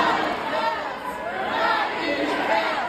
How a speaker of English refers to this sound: tell us what the crowd is chanting at Tim Walz' rally last night in Michigan